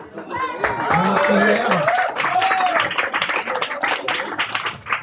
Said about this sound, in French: Applaudissez bien